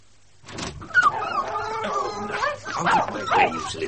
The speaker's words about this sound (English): All these beastly curs of mine. I don't know what it is, but I only have to walk outside my front door